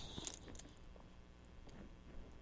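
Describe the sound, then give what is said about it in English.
Keys jingle in a short, quiet rattle near the start, followed by faint clinks and handling noise that fade over the next two seconds. “They make a good noise, huh?”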